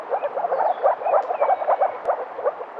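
A frog calls with soft, muffled barking notes from under water, repeated in quick irregular bursts, steady and close with no voices present; recorded at ponds near Grębów in Podkarpacie, Poland.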